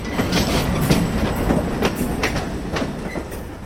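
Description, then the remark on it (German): Freight wagons roll steadily along the tracks at the Limmental marshalling yard in Switzerland, where wagons are shunted into new trains; a continuous rumbling with rhythmic clattering of wheels over rail joints, fairly loud, with no voices. “Jetzt sind die 30 Güterwagen auf andere Züge verteilt und fahren vom Limmental aus in die ganze Südschweiz und ins Tessin.”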